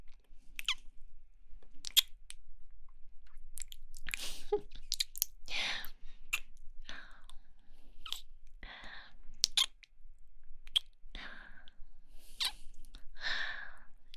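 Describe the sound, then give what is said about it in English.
A series of soft, wet kissing sounds coming in irregular clusters with short pauses between them, as little kisses are given on the base of a penis. No one speaks. “How about some little kisses on the base of your shaft? Like this.”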